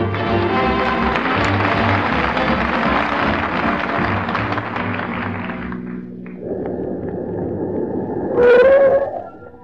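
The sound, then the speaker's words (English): Music gives way to a steady engine rumble as Fibber McGee and Molly's car pulls up to the entrance of Idlewild Farm, ending in a loud, shrill squeal of brakes lasting about a second. “You gotta get them brakes fixed.”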